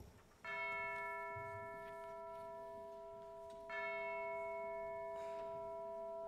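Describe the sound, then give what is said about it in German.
A heavy bell of a neighbouring church tolls twice, several seconds apart, each loud strike leaving a long, rich ringing hum that slowly fades. No voices are heard. “Da schlug die schwere Glocke der Nachbarkirche Ding-Dong.”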